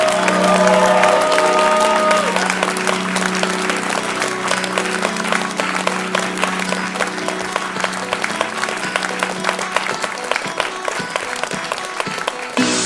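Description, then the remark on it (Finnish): Loud, sustained applause from a crowd welcoming guests onto the stage at a live event, dense clapping filling the whole stretch, with a steady tonal hum underneath for the first several seconds before fading out. “Ja raikuvien aplodien kerran toivotetaan lavalle Jaska Raatikainen, Janne Virman ja Heikka Seppä.”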